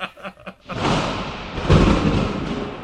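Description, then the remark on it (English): A brief voice at the start gives way to a long, rolling rumble of distant thunder on the horizon that swells midway and keeps grumbling steadily to the end. “Look on the horizon, it's a thunder gun. He's staying far away.”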